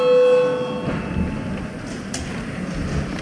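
The bell in the chamber of the Saeima, the Latvian parliament, rings out with a steady, piercing electric tone for about a second to call a vote on the 46th proposal, then cuts off and leaves a low murmur of background noise.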